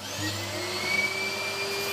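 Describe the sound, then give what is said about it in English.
A chimney sweep's special high-powered vacuum cleaner runs steadily with a loud, continuous motor drone and airy whine, a sustained hum with a thin high tone on top and no voices. “Sounds like a vacuum cleaner, doesn't it? Well, it is, but a special high-powered cleaner used by a chimney sweep.”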